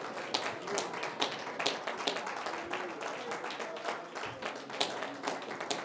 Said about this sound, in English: Praise the Lord, everyone. Oh, let's clap our hands unto Jesus.